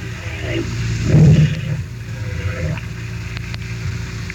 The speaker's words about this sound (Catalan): Fas garrifar, oi? No sabem què s'expliquen, però és una conversa entre balenes davant les costes de Massachusetts.